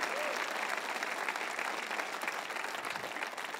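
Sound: audience applauding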